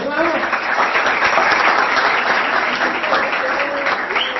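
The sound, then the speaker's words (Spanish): An audience applauds the school steadily for several seconds, a dense wash of many hands clapping at an even, fairly loud level, with a few voices faintly audible beneath it. “Muy bien, aplauso para el cole.”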